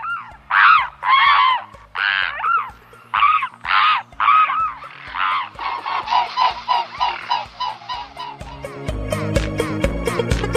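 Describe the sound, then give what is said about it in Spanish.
Swans calling in a run of loud, nasal, honking notes, first in separate bursts, then quicker and overlapping, with a rougher, noisier stretch of calls at the end. “También es verdad que muchas veces se ponen muy pesados y cantan así, como hemos escuchado.”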